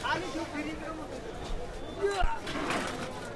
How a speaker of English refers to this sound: At the station, the platform is jammed, and so are the trains.